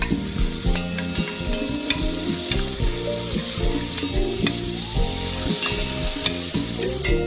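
Steady crackling sizzle of bacon, cut into small cubes, frying in pork lard, a dense hiss broken by frequent sharp pops and spits, with occasional scraping of a utensil stirring the pan. No voices.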